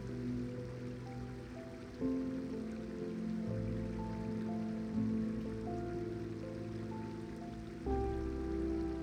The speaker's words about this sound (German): Du hörst das beruhigende Geräusch des Wassers. Es fließt über Steine und durch kleine Vertiefungen. Ein stetes Plätschern und Murmeln, das dich tief entspannt.